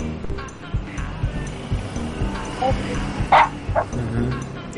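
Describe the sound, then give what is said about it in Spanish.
A female dog gives a few sharp barks and high-pitched yips while pulling hair and biting pajamas and an arm, the loudest cluster coming near the end, with muffled voices and low background noise running underneath. “ya se delató ese que está lidiando con una perra y su nombre es Mozart”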